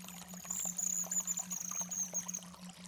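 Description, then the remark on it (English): A river babbles and trickles over rocks in a steady, continuous wash of water noise at moderate volume, with a thin high whistle and a low hum sitting beneath it. “I want you to imagine that you're walking down next to a river, and you can hear the river on the side just babbling through the rocks, and you can hear the birds in the trees.”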